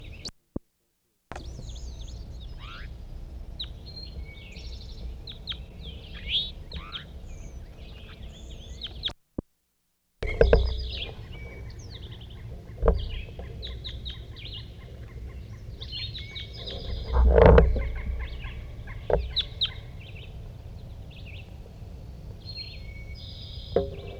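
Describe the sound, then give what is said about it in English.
Many short, high-pitched bird calls repeat in quick irregular bursts over a low steady background hum, with a brief silent break partway through and no one talking. “That was bird 4-3.”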